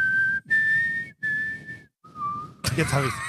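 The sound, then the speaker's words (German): Four steady whistled tones from a person's mouth, each held about half a second with short gaps, the last one lower, followed by a burst of speech or laughter. “Jetzt hab ich's. Ich kann doch noch pfeifen.”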